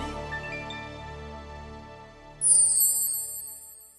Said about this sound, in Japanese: 面白いな、シャリーンっていう星が流れる音面白いな